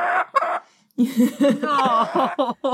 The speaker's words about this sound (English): Oh, wait a minute, we got a chicken. The chicken has entered the room. We have a chicken.